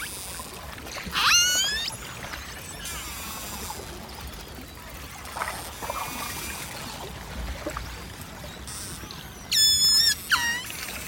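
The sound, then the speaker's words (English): A pod of orcas (killer whales) calling underwater in the Ross Sea, Antarctica: shrill, harmonic squeals and rising whistles come in scattered bursts, loudest early on and near the end, over a constant watery hiss. “This is a pod of orcas, killer whales, in the Ross Sea in Antarctica.”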